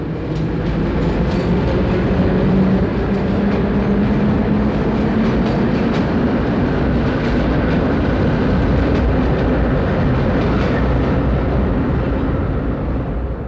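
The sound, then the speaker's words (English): A New York City subway train rumbles steadily along the tracks, loud, with a dense low roar, rattling clatter and faint rhythmic clicks throughout, no voices present. “Although the sound of the subway can be deafening, when you can listen to it through your radio or high-fidelity phonograph, you can hear a beauty in it.”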